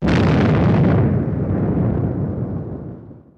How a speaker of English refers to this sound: The explosions took out the dome in six pie-shaped slices in sequence, pulling the structure inward, creating an explosion equal to an earthquake of 2.3 on the Richter scale. In total, it took only 16.8 seconds for the dome to fall.